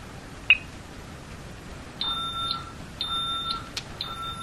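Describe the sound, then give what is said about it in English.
A security system keypad beeps steadily after a single click as the system is armed away, repeating electronic exit-warning tones about once per second, fairly loud, with no one speaking. “And I'm going to talk a little bit during this because I want you to be able to hear the beeping, but I want to make sure that we capture that 10-second warning as well when it gets faster.”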